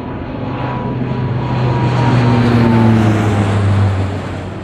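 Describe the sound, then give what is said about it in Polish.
A reconnaissance airplane engine drones overhead above Poznań during the war, a steady low throbbing hum that swells to a peak midway and then begins to fade as it passes, with no voices. “około godziny 8.30 pojawił się nad Poznaniem samolot rozpoznawczy, który spowodował uruchomienie syren alarmowych.”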